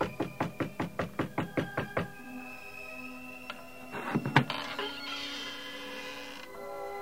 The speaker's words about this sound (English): He went in that house, just as the master said he would. Quick, knock.